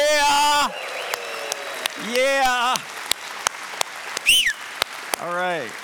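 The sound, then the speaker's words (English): An audience claps and cheers for all moms with loud, sustained whoops, and the speaker's single sharp, high-pitched whistle into the microphone cuts through the applause midway before the cheering swells again; a voice briefly speaks. “Yeah, I just whistled. I probably shouldn't do that in the microphone.”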